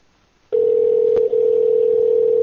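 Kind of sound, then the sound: signal or alarm, telephone dial tone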